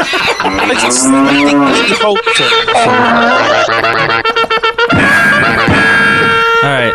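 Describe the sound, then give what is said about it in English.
A loud, drawn-out cow moo swoops up and down, then gives way to a bright, brassy cavalry-charge fanfare with steady, sustained tones, filling the whole clip. “It's like, was that like a cow cavalry charge? There was like a cow blooming, and then there was a cavalry charge.”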